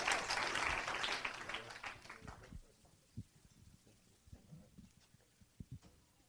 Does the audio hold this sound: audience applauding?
yes